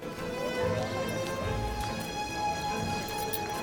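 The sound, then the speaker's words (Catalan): A horse's hooves clop on hard ground in a busy castle courtyard where men and women haul barrels and animal cages, roast meat and trade goods, with steady background noise and faint murmuring voices mixed in. “Al pati del castell, Luc lliga el cavall al costat dels altres”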